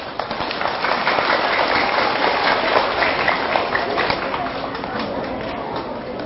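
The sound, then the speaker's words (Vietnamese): Loud, sustained applause from students agreeing with a teacher's advice: a dense crackle of many hands clapping at once, holding steady and full for about six seconds with no letup. “Do đó nếu các cháu thấy rằng lời khuyên của thầy là có thể làm được và làm đó là có lợi cho mình, hãy dâng cao tràng vỗ tay thật lớn.”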